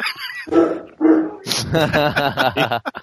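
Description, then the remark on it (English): A dog lets out two sharp, fairly loud barks about half a second apart, then a person starts talking right after them. “He's up there barking, and my wife's trying to shut him up.”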